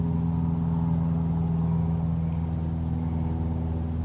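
A steady, low aeroplane engine drone hums continuously at an even level over the Tektexan Marsh on Sterna Island, British Columbia, at 7 o'clock in the evening, its deep tonal throb filling the background with no voices present.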